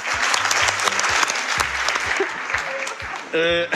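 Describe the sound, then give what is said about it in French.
A television audience applauds steadily with dense, continuous clapping throughout as the new Miss France, Isabelle Turpeau, is welcomed, joined near the end by a brief burst of voices or cheering over the applause. “Venez Isabelle, on l'applaudit.”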